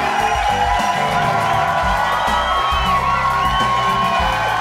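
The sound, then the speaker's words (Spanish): A studio audience in Studio 3 of Radio Católica Mundial cheers and applauds continuously, with loud whoops and shouts rising over a steady wash of clapping and crowd noise, never pausing. “Oían menos aplausos que cuando comenzamos.”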